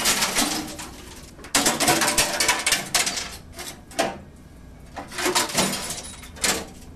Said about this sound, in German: Was sich anhört wie mutwilliges Glaszerscheppern, ist in Wirklichkeit ein wichtiger Test für Mehrwegglasflaschen, die in der Verpackungsprüfstelle der Versuchs- und Lehranstalt für Brauerei in Berlin untersucht werden.